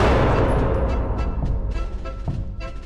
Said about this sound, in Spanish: A todos en formación para empezar el combate al disparo de un cañón.